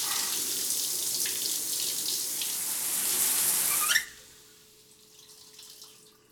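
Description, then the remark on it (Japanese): A shower runs gently on a cat being bathed, with water at about 35 degrees and low pressure, giving a soft, steady hiss of water for about four seconds, then shuts off abruptly, leaving quiet with a faint lingering tone. “シャワーを当てる時も勢いは弱めで優しくです。”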